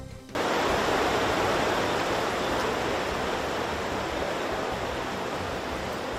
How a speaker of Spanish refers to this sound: 2 de la mañana, una canalización se rompe en la calle Antonio Leiva y el agua empieza a manar a borbotones.